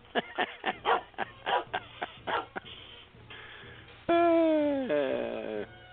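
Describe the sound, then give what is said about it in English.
A dog barks in a quick, rhythmic burst of about ten sharp yaps, then after a short pause lets out a loud, drawn-out whining howl that slides downward in pitch. “I love the dog. Sure, I love the dog.”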